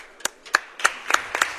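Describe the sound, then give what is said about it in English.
Applause in a slow, steady rhythm: about six sharp, distinct claps spaced evenly apart, moderately loud, with no voices over them. “And you get a nice round of applause.”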